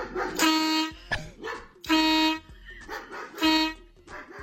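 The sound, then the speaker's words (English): Three loud, sustained air horn blasts, set off by a remote control rig called the Dog Zapper 2000 to scare a next-door neighbor's barking dog, alternate with the dog's short barks in the gaps between them, the horn blaring each time the barking starts up again. “And every time the dog barks, He plays the air horn to scare it and make it stop barking.”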